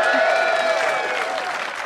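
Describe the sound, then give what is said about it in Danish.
A burst of applause and cheering from a crowd, dense and steady, filling the whole short moment at a fairly loud level with no speech over it. “Ja, skal vi have et bifald til?”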